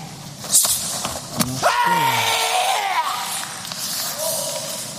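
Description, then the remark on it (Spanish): A single forceful karate kiai shout, the final shout of a kata performed with a full spinning jump at an Olympic competition, rings out, sharp at the start and trailing off with falling pitch, over a steady murmur of arena ambience with a few faint thuds. “Ese giro completo con un salto y un kiai, su último grito de este kata con el que quiere ser campeón olímpico.”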